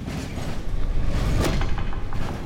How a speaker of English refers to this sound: Behind me, I hear the crunch of bones as the elevator comes to its rest.